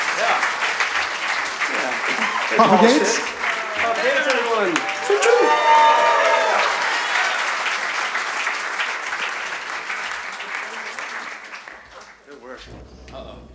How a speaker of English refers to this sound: Get a round of applause for these fine players making us look decent, huh?